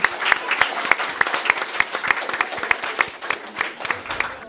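A group of students applauding together, a steady, dense patter of many hands clapping at once, sustained at an even loudness for several seconds.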